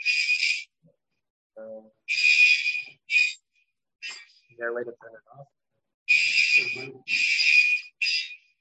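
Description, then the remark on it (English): An alarm going off in loud, shrill electronic bursts that come in uneven clusters, with people talking briefly in the gaps between them. “I'll hear the alarm.”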